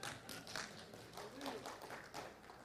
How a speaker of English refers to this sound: Oh, y'all are just clapping, say amen or something.